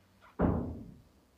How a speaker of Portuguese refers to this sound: Porra... Fecha a porta.